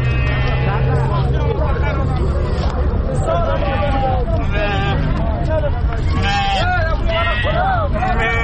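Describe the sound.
Many sheep, brought from Bamyan province for sale at a livestock market in the Chaman-e Dozori area, bleat over and over, their calls overlapping amid the steady hubbub of a busy crowd talking, with faint traffic rumbling underneath.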